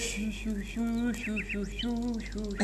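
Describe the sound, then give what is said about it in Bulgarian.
Someone imitates a nightingale's song with their voice: a fairly loud run of sustained, tuneful warbling notes broken by quick rising chirps and trills. “Когато изведнъж чухме един Славей да пее за мене. Ето така.”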